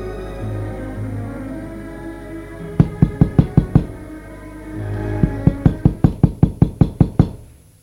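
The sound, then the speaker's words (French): Two bursts of sharp, rhythmic knocks on a door by the aunt: about six quick raps, a pause, then a longer run of around ten, over a low steady hum with no voices. “On a frappé à la porte.”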